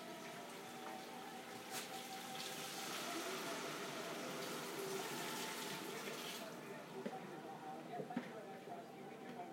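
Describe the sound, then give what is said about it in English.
A big rush of splashing water surges up for several seconds, loud and hissing, then settles back to a steady low bubbling with a few faint clicks. “Getting ready for a big splashing sound.”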